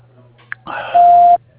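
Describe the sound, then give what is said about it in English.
A single loud, steady mid-pitched voicemail beep on the Air Miss Sound and Steam answering line, lasting under half a second, preceded by a burst of hissy line noise, with a faint low hum running underneath. “Please leave a message and we will return your call shortly.”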